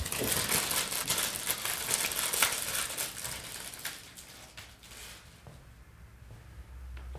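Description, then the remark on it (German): A plastic or paper packet of ginger sticks crinkles and rustles for several seconds as one stick is taken out, dense crackling that gradually thins out and fades toward the end. No one speaks. “Das sind Ingwerstäbchen. Magst du eins? Ja, gern. Dann hole ich dir mal eins raus.”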